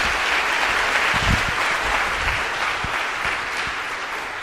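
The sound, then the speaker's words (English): Steady, dense applause from a large audience welcoming a speaker at the start of a talk, loud and sustained for several seconds with many overlapping claps and no voices. “So, a huge round of applause to Mark, and we're starting the talk.”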